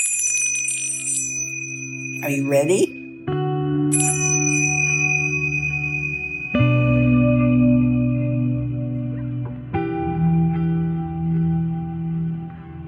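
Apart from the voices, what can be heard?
meditation bell being rung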